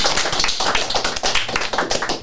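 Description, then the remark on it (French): A crowd applauds a woman celebrating her birthday, many hands clapping steadily in a dense, continuous patter that stays fairly loud throughout, with no voices standing out. “Vous pouvez l'applaudir déjà, oui.”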